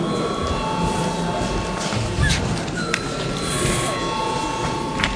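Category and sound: signal or alarm, parliament chamber bell ringing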